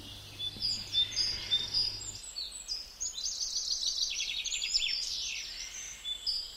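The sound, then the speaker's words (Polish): Several birds sing and chirp continuously in bright, overlapping trills and whistles, with a steady hum underneath at first; no one speaks. “A najlepiej to jest jak ptaki śpiewają.”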